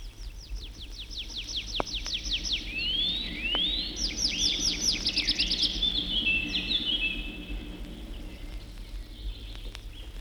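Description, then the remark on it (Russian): A tree pipit sings in the blue sky, a lively song of rapid repeated notes and sweeping trills that rise and fall, over a low, steady background rumble. “То в синем небе заливается лесной конек.”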